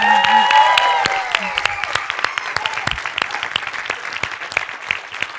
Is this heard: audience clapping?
yes